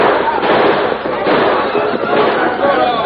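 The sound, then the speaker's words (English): A loud, dense volley of overlapping gunshots crackles without pause for about three seconds, with indistinct voices mixed into the din: outlaws firing back in a gunfight with men from a wagon train led by the Lone Ranger. “Desperately, the outlaws tried to defend themselves.”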